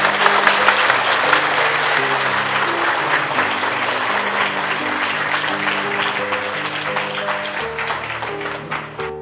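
Sustained audience applause, a dense wash of many hands clapping at steady loudness for about nine seconds, with faint low musical tones underneath and no talking.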